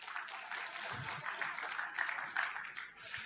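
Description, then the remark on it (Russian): A crowd applauds steadily, many hands clapping together in a dense, even wash of sound that holds for the whole stretch with small swells in loudness. “Аплодисменты, спасибо.”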